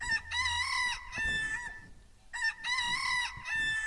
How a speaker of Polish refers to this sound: To jest najstarszy sposób tego, jak wyznaczano czas. Kogut, zwierzę, które było hodowane przy domach, o świcie, kiedy robi się jasno, pieje, daje sygnał, że nastał dzień. W ten sposób ludzie często się budzili.